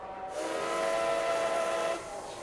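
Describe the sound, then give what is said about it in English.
At França Station, a railway terminal in Barcelona, a train whistle sounds a steady, sustained tone for under two seconds over a broad hiss of station ambience as a train to Madrid departs, then cuts off, leaving the background rush. “Welcome to Barcelona's França Station, a railway terminal opened in 1929, and which has a monumental character comprising a huge, modernist-style, metallic structure.”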